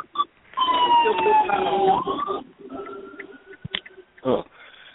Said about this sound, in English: With some sirens.